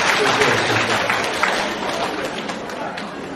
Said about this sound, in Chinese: 让我们再次用掌声感恩卢军宏台长为我们慈悲看图腾。